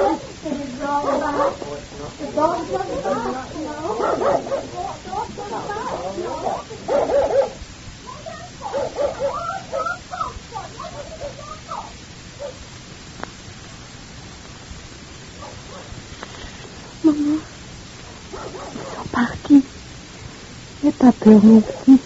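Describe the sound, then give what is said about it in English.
A dog barks and yelps in scattered bursts, with a few sharper barks near the end, over a steady background hiss and some murmuring voices. “All the time so nervous that the dog barks, Ma.”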